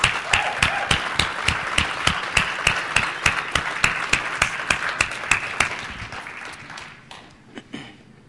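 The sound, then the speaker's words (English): A crowd applauds steadily, with sharp individual claps standing out in a quick rhythm, loud, before the clapping thins out and fades near the end. “Could you just give them a round of applause?”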